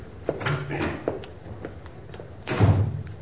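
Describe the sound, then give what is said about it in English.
A door shuts with a dull thud near the start as a visitor leaves, followed by muffled shuffling and a second heavier bump, set against a quiet room background with no voices. “I'll show you to the door. I can find it,”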